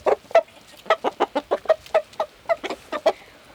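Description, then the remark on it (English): A white sex link hen clucks in a quick, uneven string of about fourteen short, throaty notes, with no talking around her. “Today I'm here with Honey, and she is a sex link, a white sex link, and she wanted to tell a joke.”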